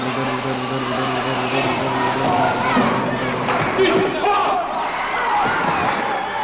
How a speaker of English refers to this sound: It seems like the entire San Diego Fieldhouse is filling up with water so that Flipper can swim to the stage